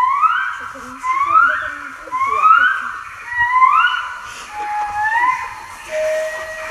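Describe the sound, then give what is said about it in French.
A male and female gibbon pair sing their morning duet in a series of loud, rising whooping notes that swoop upward one after another in a steady rhythm, with higher, quicker calls joining toward the end. “Ils chantent en couple, le mâle et la femelle, pour défendre leur territoire, chantent comme ça.”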